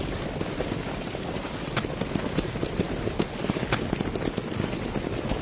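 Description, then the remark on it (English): Horse hooves trotting in a steady, continuous clip-clop rhythm as a rider comes in, having just picked up to a trot, moderately loud, with no voices over the sound. “Riding in kind of slow. Just picked up to a trot.”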